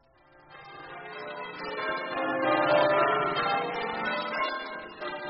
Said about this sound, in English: Ring the bell by all means.